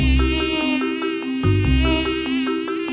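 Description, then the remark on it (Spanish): A mosquito whines steadily for the whole stretch, a thin, high, unbroken buzz with slight wavering in pitch. No voices are heard. “Pero solo las hembras que necesitan tu sangre para desarrollar sus huevos y poblar el universo de miles de mosquitos que volverán a picarte a ti.”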